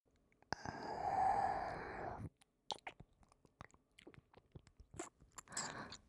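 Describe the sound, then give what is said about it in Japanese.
A long breathy exhale gives way to wet, smacking mouth sounds of a tongue licking the left ear, with sticky clicks and slurps arriving in quick irregular bursts. No one speaks. “じゃあ、まずは、私がお耳をお口でいじっていきますね。ぬめぬめの舌で、思う存分、いじめられてください。”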